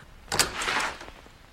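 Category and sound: household object, front door being opened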